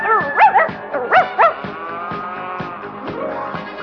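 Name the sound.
small dog barking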